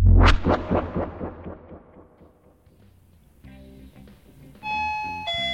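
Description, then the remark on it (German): A doorbell rings for a pizza delivery with a loud, sharp chime that rings out and slowly fades, then steady tonal humming and a bright sustained whine rise toward the end. No one speaks. “Pizza! Macht mal bitte jemand auf!”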